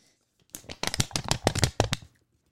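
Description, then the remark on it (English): Loud paper rustling and crinkling for about a second and a half, broken by a quick run of sharp snapping crackles, then silence. “The paper what snaps.”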